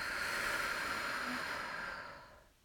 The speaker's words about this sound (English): So when we do feel nervous, we want to use the breathing techniques that we've practiced. Okay. Breathe in. Breathe out.